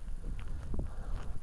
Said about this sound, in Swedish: Här är det kall, iskall motvind måste jag säga.